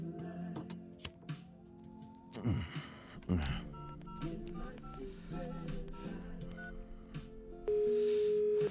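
Telephone keypad tones beep in a quick irregular sequence as a mobile number is dialed late at night in a bombed-out attic flat in the inner city, with some faint background noise, ending in a loud, steady electronic tone before voicemail answers.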